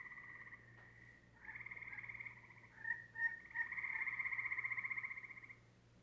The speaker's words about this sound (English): In this recording of a chorus of gray tree frogs, listen for aggressive chirps interspersed among normal advertisement calls. That squeak there is actually the gray tree frog being aggressive, or excuse me, doing an encounter call.